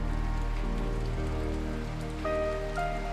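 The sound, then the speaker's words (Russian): Light rain falls outside a window, drops rolling slowly down the glass, pattering steadily and evenly, a soft continuous hiss beneath sustained, gently shifting musical tones. No one speaks. “За окном идет легкий дождь.”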